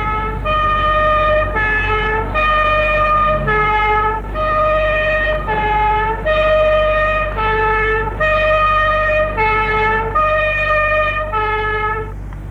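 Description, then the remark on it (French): A loud two-tone siren alternates between high and low pitches in a steady, repeating pattern across the whole clip, with shrill whistle-like tones over a constant low rumble and no voices, in the street at night. “Sirène des sifflets.”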